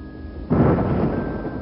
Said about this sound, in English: As we continue, the sky goes from dark to darker. Rolling clouds streaked with flashes of neon greens and blues. The rumbling thunder is just the soundtrack to a life in a new world.